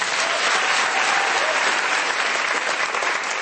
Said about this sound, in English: Let's give him a round of applause, everyone.